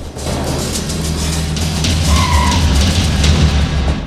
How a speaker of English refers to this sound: Truman makes a right turn. Joey's car does likewise. They're in a car park next to several high-rise public housing developments, the projects.